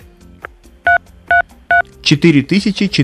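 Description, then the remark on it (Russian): Three short, evenly spaced phone keypad beeps ring out clearly as dictated numbers are typed into a phone, each a steady two-tone chirp. A voice starts talking right after. “прям в самый мозг идет этот пип”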